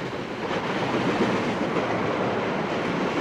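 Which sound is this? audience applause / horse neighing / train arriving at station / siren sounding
train arriving at station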